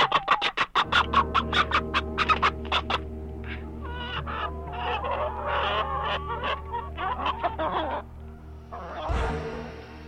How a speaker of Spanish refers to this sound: y entonces el sombrero empezó a moverse por sí solo hasta que se volcó, liberando en medio de una enloquecida gritería a la gallina prieta que el coyote llevaba en la boca.